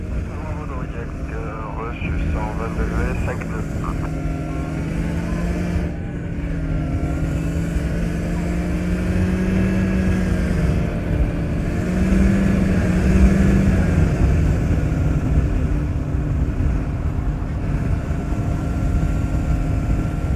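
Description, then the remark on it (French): An ultralight (ULM) aircraft engine drones steadily in flight, recorded in the sky in October 2013 while the aircraft leads a flock of migrating birds toward Germany: a loud continuous buzz with layered harmonic tones whose pitch wavers slightly up and down throughout. “les accompagnant à bord de son ULM jusqu'en Allemagne.”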